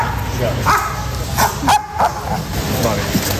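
Several sharp barks of search and rescue dogs at the rubble of a collapsed building under construction on Calle de Hileras near Ópera, sounding at uneven intervals over a steady, noisy outdoor background with faint murmuring.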